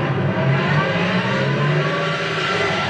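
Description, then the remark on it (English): A car engine revs and roars steadily and loudly, its pitch rising as the vehicle approaches, with no voices over it. “Now, here comes a nice car.”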